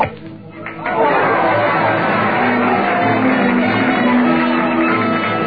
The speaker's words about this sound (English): A cheering crowd is following Dominga Capati, two strokes ahead of the field as she tees up for her 35th hole.